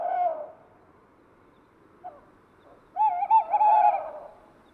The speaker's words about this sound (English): On the scene's far right side, a tawny owl is perched. It's a male, cleaning his plumage while hooting in a persistent way.